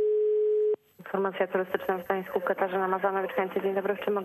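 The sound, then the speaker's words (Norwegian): A steady, single-pitched telephone ringing tone sounds over the line for under a second during an outgoing call, then cuts off abruptly as a voice starts talking in phone-filtered quality. “Ja, jeg bare kaster meg på telefonen.”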